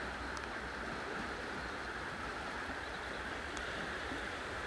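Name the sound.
river water flowing past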